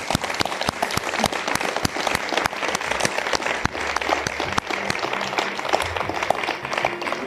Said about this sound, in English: Thank you very much. A round of applause.